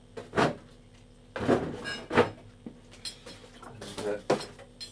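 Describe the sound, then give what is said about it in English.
A refrigerator door opens with a series of clunks and rattles, several sharp bursts spread over a few seconds, like bottles and containers shifting on the shelves, over a low steady hum. “And this is the fridge.”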